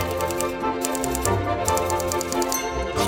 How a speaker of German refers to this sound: Das Klappern seiner Schreibmaschine war wohl das einzig angenehme Geräusch in diesem kalten Büro.